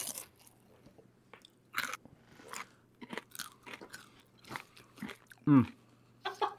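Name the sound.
crunchy chewing of food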